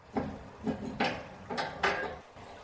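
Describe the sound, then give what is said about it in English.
The door of the Crystal Diamond Springhouse, which shelters the Magnesium Spring, being unlocked by Rob Lukens: a string of five or so sharp metallic clicks and clunks from a key and latch, arriving in an uneven rhythm with brief pauses between them. No one speaks. “The last discovered, in the mid-1800s, is the Magnesium Spring, now protected in the Crystal Diamond Springhouse, where Rob Lukens unlocks the door.”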